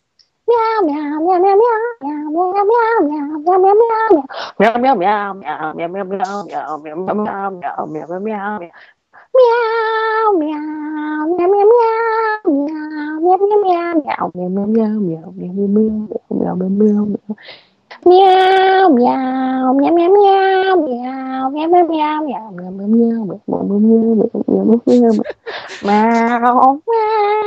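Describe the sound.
A person sings a TV show theme tune as a continuous melody entirely in meow-like syllables, imitating a cat's voice. The singing is loud and steady, with a few brief pauses between phrases.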